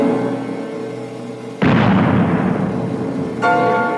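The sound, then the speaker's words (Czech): A single loud cannon shot, the twelfth shot, erupts suddenly over a quiet humming tonal background, its deep booming rumble rolling on for a couple of seconds before the steady hum comes back. “Dvanáctá rána. Nic jich nebude.”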